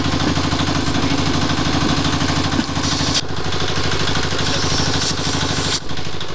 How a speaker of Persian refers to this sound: صدای تانک ها در شهر کابل شنیده شده و کودتای نظامی علیه نظام داود خان آغاز می گردد.